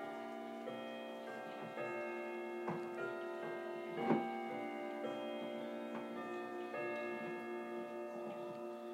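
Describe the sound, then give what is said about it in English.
A clock chimes, its layered bell tones ringing out and sustaining steadily while a regular ticking clicks along underneath, with one slightly louder knock partway through. No one speaks. “Here we go. Some chime.”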